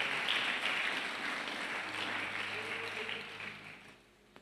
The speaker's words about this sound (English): But we got the bona fide God. Can you clap your hands for Jesus, somebody?